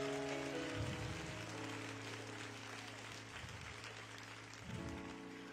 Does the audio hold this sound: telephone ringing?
no